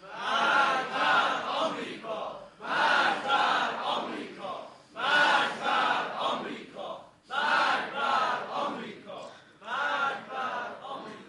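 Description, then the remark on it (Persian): A large crowd gathered in a Hosseiniyeh chants the slogan "Death to America" in unison, loud rhythmic bursts of massed voices repeated about five times with brief pauses between each shout. “اما امروز بار دیگر می‌خواهیم از این حسینیه و در این جمع علمی و نخبگانی مشت محکمی بر دهان یاوه‌گویان بزنیم و فریاد مرگ بر آمریکا را تنین انداز کنیم.”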